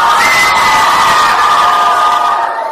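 A crowd of children cheers loudly and continuously for the girls winning a quiz question, a dense wash of high-pitched shouts and whoops that holds steady for a few seconds before easing slightly at the end.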